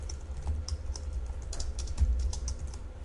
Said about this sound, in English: And now I can continue typing and I don't have to ever touch the mouse.